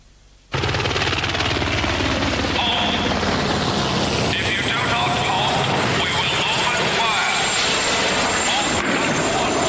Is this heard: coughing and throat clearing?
no